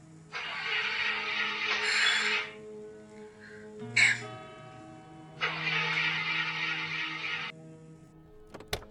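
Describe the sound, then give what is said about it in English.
A broken-down car's engine, after its power just stopped, sputters and grinds in two long, rough cranking attempts separated by a sharp pop, with a low mechanical hum underneath and no voices, ending in a faint click. “My car just broke down.”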